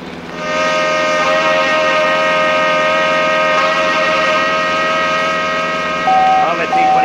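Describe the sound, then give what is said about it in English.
A car horn held down during a high-speed car chase at about 90, in one long, loud, unbroken blare of steady pitch that lasts several seconds, wavering briefly near the end. “Put your hand hard down that horn, will you, senior?”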